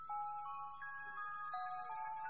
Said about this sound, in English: But all we could hear was a ringing of bells.